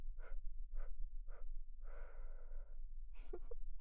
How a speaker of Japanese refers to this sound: ほーら、乳首さんに吐息吹きかけて